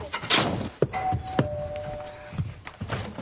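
A few dull thuds and knocks, like a door being handled or shut, with a sustained electronic bell-like tone ringing for about a second between them, over a busy background.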